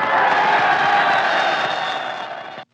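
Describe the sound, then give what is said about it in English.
A loud crowd cheers and whistles for Martha Ray for about three seconds, a dense, steady roar with shrill whistles threaded through it, before cutting off abruptly. “You look so lovely, I couldn't help cheering and whistling.”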